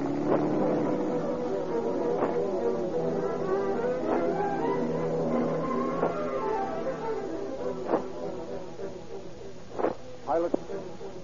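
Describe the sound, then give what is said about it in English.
Vehicle engines rumble steadily as a mail truck is driven about 12 blocks, closely followed by a car, a low continuous drone with shifting tones and a few sharp clunks toward the end. “Piloted by the bandits, the mail truck is driven 12 blocks, closely followed by the robber's car.”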